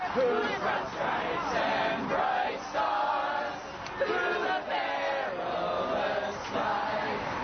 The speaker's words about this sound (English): That's some sound of protesters last week in opposition to the election of Donald Trump, who marched through Iowa City to Interstate 80, in fact, blocked traffic along Interstate 80, an exit there.